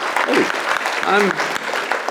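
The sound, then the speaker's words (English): A dense, steady patter of audience applause at a talk by Sadhguru fills the whole stretch, with a voice briefly calling out over the clapping midway. “I'm complaining and the guy's clapping about it.”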